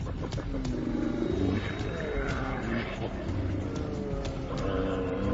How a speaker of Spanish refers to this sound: Cuando los machos están en ayuno, los ánimos se calientan. El conflicto se aproxima. Los osos polares machos, atrapados en la costa, se enfrentan.